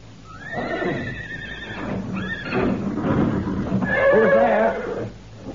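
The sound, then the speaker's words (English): Several restless horses at a ranch, at night, neigh and whinny in overlapping, agitated bursts, with hooves clopping and shuffling underneath, loud throughout. “When I heard the horses getting so restless, I took a flashlight and a rifle and went for a look-see.”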